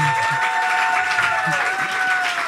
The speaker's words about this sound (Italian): Un applauso!